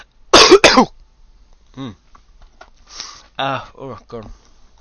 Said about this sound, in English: Tell you what, the cough I've had for 6 weeks has been abating and it's starting to come back, and that's not a good thing.